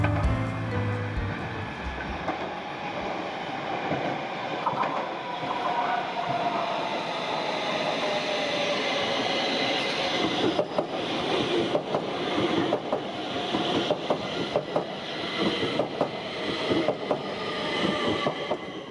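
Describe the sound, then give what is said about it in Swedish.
A subway train rolls into a station platform in Stockholm, its steady rumble and screeching wheels filling the space before rhythmic clacks and brake hiss as it slows, loud, with no voices. “Ljudet när tunnelbanan anländer till perrongen, till stationen.”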